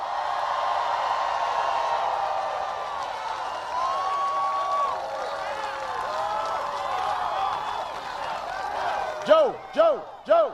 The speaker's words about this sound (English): So I want you to give him another big round of applause.